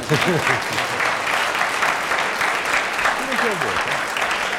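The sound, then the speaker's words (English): An audience claps steadily for several seconds for Derek Nimmo, a dense, even patter of many hands with a few faint voices murmuring underneath. “Anyway, I think we should give a round of applause to Derek Nimmo, because he kept going.”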